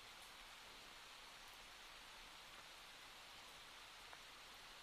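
Soft, steady rain falling continuously at night, a dense even hiss of drops with an occasional faint individual patter, unchanging throughout and with no voices.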